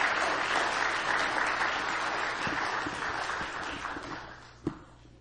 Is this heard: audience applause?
yes